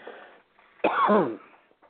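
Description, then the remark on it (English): A single raspy, throaty cough bursts out loud, preceded by a softer rough throat sound, then quiet; the cough comes from allergies. “Hi, coughing.”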